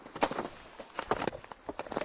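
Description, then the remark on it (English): Snowshoe footsteps crunch across the ice of Wolf Pond, a frozen wild mountain pond, in an uneven walking rhythm, roughly half a dozen crisp, scraping steps over two seconds, with no voices. “You can hear that different sound in my snowshoes. That's because I'm out on the ice now, on this wild mountain pond.”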